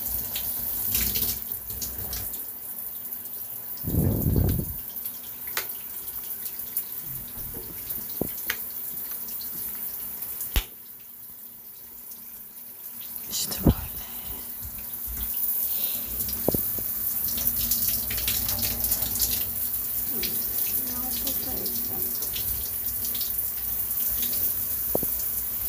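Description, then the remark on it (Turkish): A shower runs steadily, a continuous hiss of water with a few brief splashes and knocks, briefly quieter near the middle, and no one speaking. “Duş yerini uzat.”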